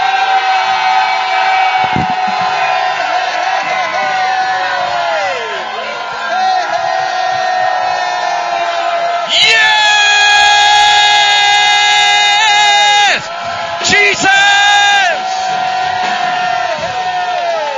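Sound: audience shouting and cheering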